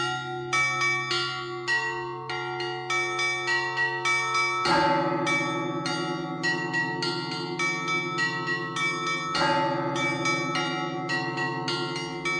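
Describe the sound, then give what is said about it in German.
Bells of the Russian Orthodox monastery Uusi Valamo ring out loud, worked by the duty monk with ropes, pedals, hands and feet: rapid clanging small bells over a sustained humming drone, with a deep heavy bell struck twice. No voices. “Und in der Früh und überhaupt dreimal pro Tag wird man durch Glocken geweckt.”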